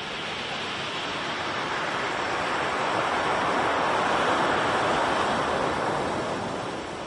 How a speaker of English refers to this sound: As the water rushes out, building up to the next wave, you can hear the pebbles being dragged out with it. The momentum builds up until it comes down with an almighty crash. Water soars up to 4 metres high.